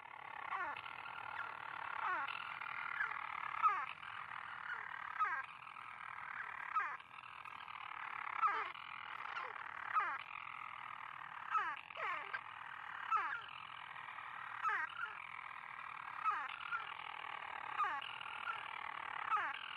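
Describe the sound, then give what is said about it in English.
A single storm petrel's call early in the evening, at a monastery on a peak: a continuous, raspy churring purr broken every second or so by a quick downward hiccup note, steady and fairly loud, with no one speaking. “Early in the evening, a single storm petrel makes its call.”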